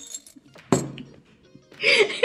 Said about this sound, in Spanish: Les voy a presentar a mi nuevo mejor amigo. La campana. No tenemos campana, así que tuvimos que improvisar.